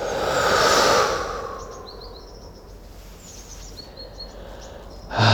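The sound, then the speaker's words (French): A long, deep inhale and exhale swells up loud, then fades into quiet room tone, with faint bird chirps in the background before another breath begins at the end. “Et vous prenez une grande inspire-expire.”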